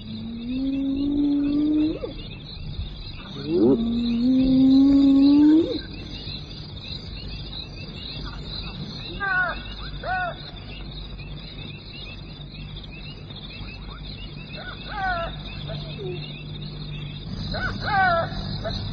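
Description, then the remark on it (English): Hyenas and jackals, kept from a carcass by a feeding lion, call in a mournful chorus: two long rising whoops up front, then scattered yelps and chirping cries over a low rumbling background, moderately loud. “But the lion chases him away, and those frustrated pallbearers, the hyena and the jackal, set up a mournful chorus.”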